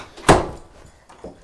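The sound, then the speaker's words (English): A door swings shut with one sharp, loud thud, followed about a second later by a softer knock as it settles. No one speaks. “Yeah, let's close the door.”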